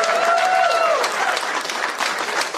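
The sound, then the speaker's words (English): An audience applauds with dense, steady clapping that holds fairly even throughout, while a brief falling whistle rings out near the start. “Yeah, it's real tough to get applause in this room right there.”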